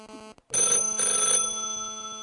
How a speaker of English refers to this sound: Might also listen to this phone ringing.